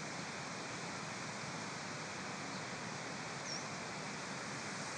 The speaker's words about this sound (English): Mm, that water's loud, hey? Coming down the stream, down the little rapids.